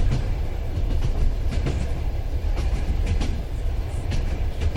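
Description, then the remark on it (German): A long-distance train rolls steadily along the rails, a loud continuous low rumble with sharp periodic clacks of wheels over track joints. The train stops only every two to six hours, and its locomotive is changed every 800 kilometres. “Der Zug hält nicht oft an.”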